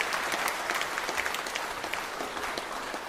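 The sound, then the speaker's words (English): A crowd claps steadily for the people up front, a dense patter of many hands at an even, sustained loudness with no voices rising above it. “Should we give a round of applause to these guys up here?”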